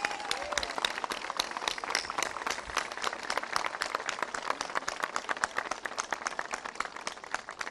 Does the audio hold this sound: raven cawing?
no